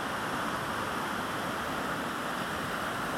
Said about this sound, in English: I can also turn my ears to the sound of the water crashing over the rocks, the sounds of birds as they fly through over the river.